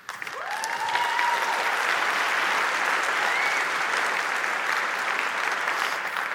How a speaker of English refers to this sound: Now, before you applaud too much, this was my idea 20 years ago.